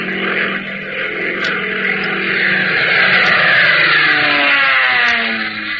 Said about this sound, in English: Fellas, doesn't the roar of that plane give you a thrill? Doesn't your heart beat a little faster every time you see one of Uncle Sam's giant birds flying high over the rooftops?